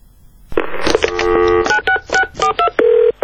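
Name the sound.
telephone tones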